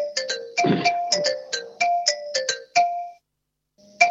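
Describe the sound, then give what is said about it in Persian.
A phone ringtone plays a quick melodic pattern of bright electronic tones, repeating for about three seconds, pausing, then starting again; a low thump sounds briefly near the start. “ببخشید این تلفن داره زنگ میزنه.”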